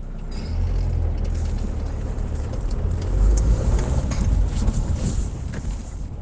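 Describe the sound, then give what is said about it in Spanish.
A car drives along after nightfall with its engine running steadily, a continuous low rumble and road noise filling the whole stretch at an even level, with no voices. “Ya en el coche, Miguel revisa mentalmente su agenda.”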